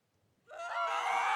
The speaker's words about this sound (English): A piercing scream cuts through the air, announcing the presence of Lord Five being attacked by a pale and desperate man.